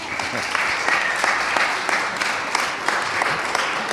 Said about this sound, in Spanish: Un aplauso para Jonathan, ok.